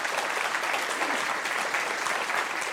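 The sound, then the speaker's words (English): A crowd applauds steadily, a dense, even wash of clapping hands that holds at a consistent moderate loudness throughout, with no voices standing out. “And you know, those of us who are not, you may go ahead and applaud.”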